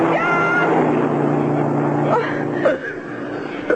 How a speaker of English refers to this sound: Oh, wait. I hear a car coming. He'll help us. I'll wave him down.